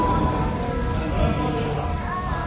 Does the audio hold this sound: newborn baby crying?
no